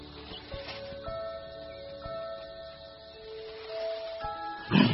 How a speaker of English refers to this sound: I knew it was elephants.